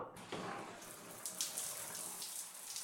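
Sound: shower water running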